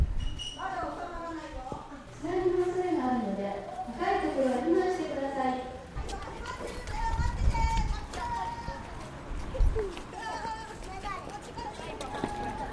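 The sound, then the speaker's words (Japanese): A crowd of children calls out and chatters outdoors, then quick thudding footsteps and rumbling movement take over as the group runs past, with voices continuing in the background. The children wear disaster-prevention hoods and are running during an earthquake evacuation drill toward the neighbouring Nakajima Elementary School. “さあ防災頭巾をかぶって子どもたちが避難先の隣にあります中島小学校の方に向かって走っていっています。”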